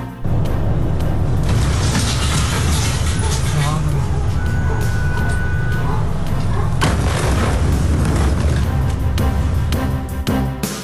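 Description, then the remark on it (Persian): A huge explosion in Beirut, Lebanon, roars with deep rumbling that fills the scene for several seconds, loud, with shouting voices and debris-like crackling mixed in. “وقوع انفجار بزرگ در بیروت، تمامی پایتخت لبنان و حومه آن بر سر این انفجار لرزیده است.”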